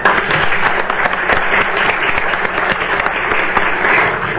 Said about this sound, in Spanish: Gracias. Bienvenido, senador. Por favor, un aplauso para el senador.